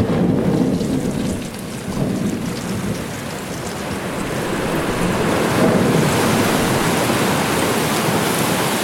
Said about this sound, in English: Even the sound of the ice is the sound of us, of our ship, crashing into it.